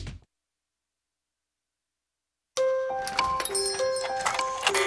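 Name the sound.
clock ticking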